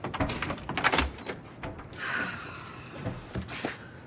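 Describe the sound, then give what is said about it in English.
An apartment door is unlatched and opened late at night by a woman answering it: a cluster of sharp clicks and knocks, then a soft sweeping swish as it swings, followed by a few more light knocks. “The woman in the photo booth pictures on David's wall answers the door.”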